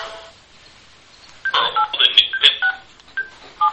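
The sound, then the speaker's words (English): A quick string of telephone touch-tone beeps, about ten short dual-pitched tones in an uneven rhythm, each a clear electronic chirp over faint background hiss, dialed into an automated phone menu service. “So it took the touch tones.”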